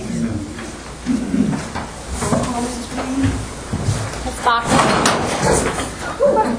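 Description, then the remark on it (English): Loud scraping and clattering of a table and chair being dragged across the floor in several rough bursts as someone pulls their chair up by holding the table during an evening meeting, with indistinct murmuring voices underneath. “I tried to pull my chair up by holding the table.”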